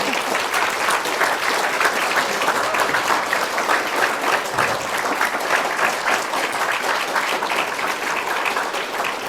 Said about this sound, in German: Also vielen, vielen Dank. Ihr habt eine großartige Arbeit geleistet und bitte nochmal einen ganz fetten Applaus für unsere Mentoren.